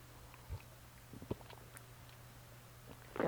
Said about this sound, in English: can I have a little sip here? Boy, my little throat.